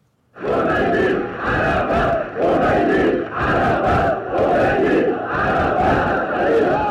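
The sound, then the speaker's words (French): An archive recording from 19 February 1979: a large Iranian crowd chants a slogan in unison, heard as "Roménie Arafat", loud rhythmic bursts repeating about once every second or so, voices blending into a dense roar throughout. “On entend le peuple iranien crier « Roménie Arafat », si j'entends bien.”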